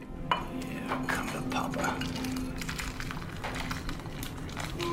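Steaming soup being ladled into a bowl, with a continuous wet, sloshing texture broken by light clinks and scrapes of utensils against dishes, over a low steady hum.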